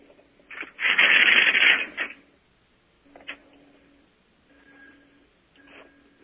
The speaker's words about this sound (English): But that was the ringback from the phone that we just called.